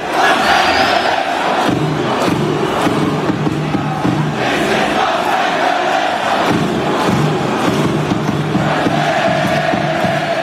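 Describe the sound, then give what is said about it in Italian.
A large stadium crowd of Los Angeles FC football fans chants "This is Los Angeles" at the end of a match against Sporting Kansas City, a sustained, loud roar with voices rising and swelling in rhythmic waves that fill the whole space without a break. “Nel finale della partita contro lo Sporting Kansas City, hanno cominciato a cantare «This is Los Angeles»”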